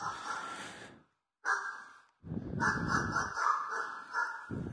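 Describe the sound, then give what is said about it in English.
Dogs bark in a loud, harsh, continuous burst that breaks off, then comes back in two more stretches, the last one long and overlapping, with no talking. “Yes, okay, dogs, yes, I'll come.”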